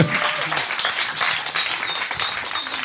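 An audience claps steadily throughout, a dense, continuous wash of applause filling the whole moment at a fairly loud, close level.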